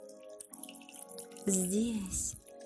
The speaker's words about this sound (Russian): Возле меня течет родник с чистой, целительной водой.